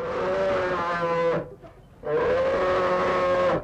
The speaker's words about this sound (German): Sprechen können Bären nicht, dafür brummen sie. Und das klingt manchmal ganz schön gefährlich.